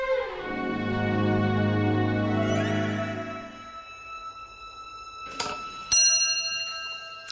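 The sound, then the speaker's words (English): A clock strikes one o'clock with a single resonant, bell-like chime that hums and slowly fades, followed by a couple of sharp, ringing metallic ticks. No one speaks. “One o'clock.”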